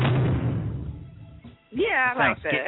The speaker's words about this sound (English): You like my new sound, my jail sound?